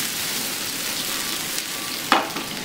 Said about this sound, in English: Now we're going to put a little more oil in the pan and fry the second batch of steaks. Now as soon as that's done, we're going to deglaze the pan with a little bit of water. And deglaze the pan.